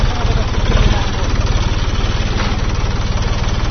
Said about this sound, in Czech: Od Kancelarije za Kosovo i Metohiju dobio je traktor koji do sada nije imao. Dobar dan. Da li možete da isključite traktor?